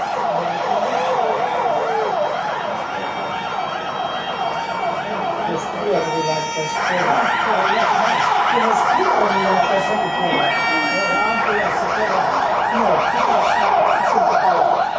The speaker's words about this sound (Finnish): No niin, nyt lähti kaikki Kallion paloautot.